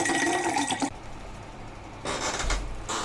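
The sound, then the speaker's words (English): Liquid is poured in a short splashy stream with a faint ringing tone, followed after a pause by two more brief gushing bursts, with no talking. “A lot of podcasts just come from a can. Here at Two Douchebags and a Microphone, we pour our own podcasts.”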